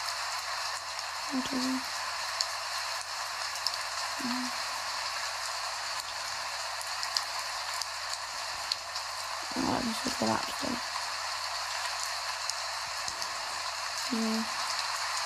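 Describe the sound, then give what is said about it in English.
Steady, even rain hisses outside throughout, a soft constant wash of droplets. A voice murmurs a few quiet words over it now and then. “Rain outside and you just stroking my hair.”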